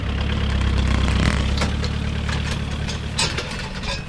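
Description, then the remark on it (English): A Land Rover engine rumbles steadily for about four seconds as it drives forward in a field, pulling a hay bale away to unwind it, a deep low drone with a rough, knocking texture and a faint higher hiss. No voices are heard. “Now what I just need to do is hop in the Land Rover and pull that away, and then we're hoping to unwind the bale.”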